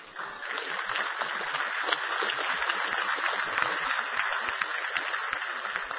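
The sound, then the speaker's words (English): Steady, dense applause from a large crowd in the Georgia House chamber during an address to the Georgia General Assembly, many hands clapping at once in a continuous wash that holds at an even loudness for about six seconds. “Once again, I noticed some were not applauding.”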